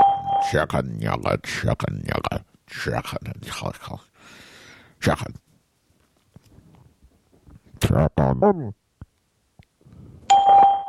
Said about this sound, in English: Hello, welcome to Skype call testing service. After the beep, please record a message. Afterwards, your message will be played back to you.